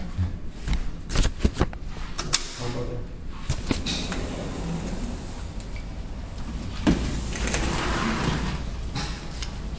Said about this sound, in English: I'm going to open this door. Is that okay?